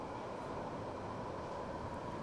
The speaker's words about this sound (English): I used to ride these trains all the time. Yeah. Literally. It was like my favorite thing to do. And I just go up and down the network.